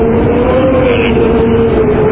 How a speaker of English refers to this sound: I'm going to now enter in. Oh, God, you can hear. See, do you hear the wind? Yeah, it's scary.